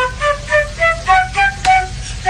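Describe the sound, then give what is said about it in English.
A flute, played by a singer on a stoop, plays a quick, bouncy melody of short, bright notes in a steady rhythm. Near the end, one sharp percussive slap cuts in: Meg Thee Stallion twerking. No one speaks. “That flute though.”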